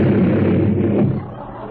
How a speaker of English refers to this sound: Hey, who's lighting all these firecrackers? That's me, officer. I'm the one.